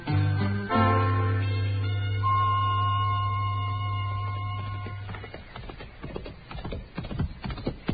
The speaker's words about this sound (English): Well, that's a good-looking horse Chester's riding, man. He's thinking of buying it, Doc.